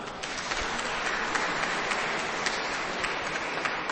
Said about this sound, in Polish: Brawa dla tych, którzy są razem z nami. Ale także siebie nawzajem przywitajcie gorącymi oklaskami, dziękując za dar każdej i każdego z nas. Brawa!